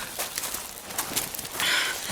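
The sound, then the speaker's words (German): Dry, crackly rustling in jungle undergrowth, a steady run of soft, hissy bursts with no voices, and a brief thin chirping tone near the end. “Ich höre es rascheln.”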